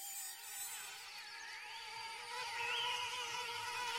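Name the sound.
mosquitoes buzzing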